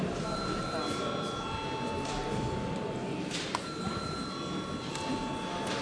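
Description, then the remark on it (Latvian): A parliament voting bell rings steadily for about six seconds before a vote on amendments to the social services and social assistance law in second reading, a continuous even tone with no breaks, heard over a low murmur of voices and shuffling. “Paldies, lūdzu zvanu.”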